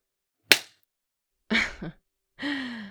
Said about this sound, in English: I did slap your ass.